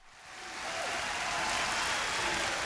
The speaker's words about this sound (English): Cheering crowds in Indiana are nothing new, especially at high school basketball games, the state's longtime obsession.